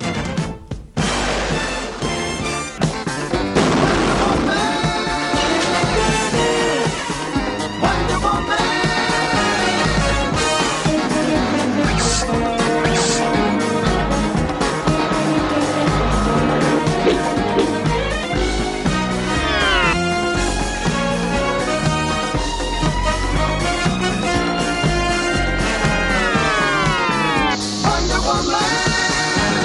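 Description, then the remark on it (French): An energetic TV theme tune plays loud and continuously for the whole stretch, with dense brassy instrumentation and a driving beat, and no voices over it; the theme ends with an explosion. “Et le générique se terminait par une explosion, comme d'habitude.”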